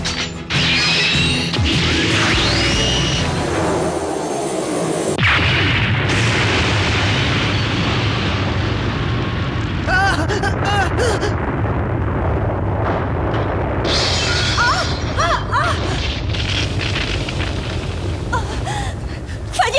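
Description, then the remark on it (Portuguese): A positron cannon, with energy transferred into it, fires at a target after a countdown in a long, loud roaring blast, with deep rumbling, crackling bursts and whining tones sweeping up and down, sustained without a break for about twenty seconds. “Transferimos a enerxía ao canón de positróns.”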